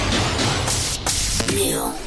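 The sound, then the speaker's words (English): A steady, loud hiss of a Secret Whole Body Deodorant aerosol spray runs for about two seconds, broken by a couple of short pauses, with faint voice-like sounds mixed in near the end. “Ooh, I love that it's a spray.”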